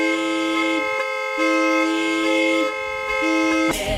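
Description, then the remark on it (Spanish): A car horn blares in long, loud, sustained honks, three blasts separated by brief breaks, ending in a short burst of noise. “Así que pita, pita cabrón, pita, cambia este mundo con tu bocina.”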